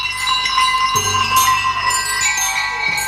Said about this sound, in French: Et oui, on peut même jouer avec les pierres extraits du concert de pierre du compositeur Nicolas Frise.